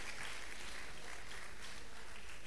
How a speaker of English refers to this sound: Women, help us clap for our men.